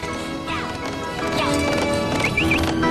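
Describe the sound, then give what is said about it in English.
A stallion, ridden by a woman in a flowery dress, gallops after a jet, hooves pounding in a quick, uneven rhythm over a loud, steady backdrop, with a few high whinnies cutting through. “Ramada runs to her stallion, vaults onto him, and gallops after the jet.”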